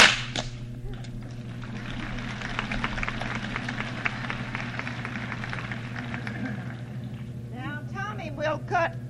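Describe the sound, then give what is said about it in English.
A loud bullwhip crack opens, followed by a run of quicker, sharp snaps as a whip artist cuts straws with strokes of the bullwhip, over a steady low hum and crowd noise, with a voice speaking briefly near the end. “With four strokes of the bullwhip.”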